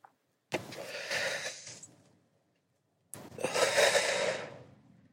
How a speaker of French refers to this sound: Cette respiration que je fais depuis 20 ans, qui est d'aspirer, de bloquer ma respiration et d'expirer. Je fais ça uniquement quand je fume.